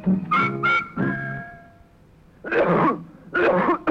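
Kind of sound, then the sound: human body sound, nasty cough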